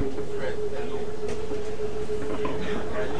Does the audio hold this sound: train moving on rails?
yes